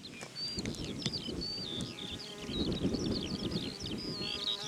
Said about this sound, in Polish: o i nawet mamy tutaj pszczoła, jak mi się wydaje, po dźwięku